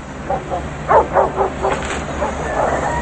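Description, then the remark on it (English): Several caged dogs bark in a quick, irregular series of yips and woofs, overlapping slightly, with a faint steady hum of background noise and no talking, inside a large, dilapidated corrugated-metal building with an old school bus; a man holds one of the dogs. “Inside, Vincent passes an old school bus and dogs in cages.”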